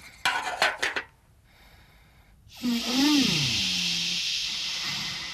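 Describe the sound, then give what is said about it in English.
A few quick clinks of tea crockery, then a steady loud hiss like a boiling kettle letting off steam, with a low wavering tone underneath; the kettle is heating on Errol. “Nobby, take that kettle off of Errol.”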